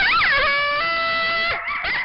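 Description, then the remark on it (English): Loud howling of mating coyotes, with wavering, high-pitched yips and sustained wailing tones, several voices overlapping in a continuous chorus, no talking. “Oh, you mean the noise of coyotes mating?”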